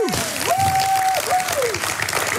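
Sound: applause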